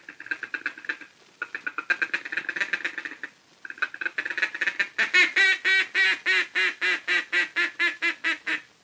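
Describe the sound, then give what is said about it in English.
A duck call is blown to draw ducks toward decoys: a fast, rattling feeding chuckle for several seconds, then a steady run of about a dozen loud, evenly spaced quacks. No voices. “That's the time to give them the confidential chatter of the feeding chuckle, cramming in an optimistic quack, quack, quack, quack, quack, quack, quack of contentment as they come nearer and nearer like this.”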